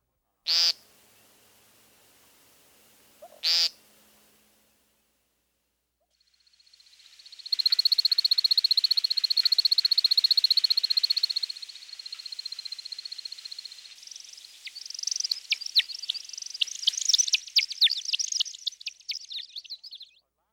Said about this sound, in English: At least some of these twittering whistles are created by wing feathers during his spiraling flight display. Here's the American woodcock one more time.